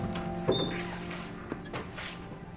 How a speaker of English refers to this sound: stands and opens the door.